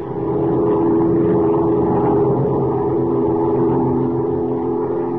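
The engine of a big amphibian plane flying southward over a river winding through the dense jungle of Central America drones steadily and loudly, a low throbbing roar with layered harmonic hum that holds even in pitch and volume throughout, with no voices.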